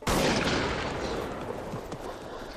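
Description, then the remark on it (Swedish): A single loud gunshot fired at a pig cracks out at the start, then a long rumbling echo rolls on and slowly fades, as if fired outdoors over open ground. Nobody speaks. “Ett bra skott. Det är perfekt.”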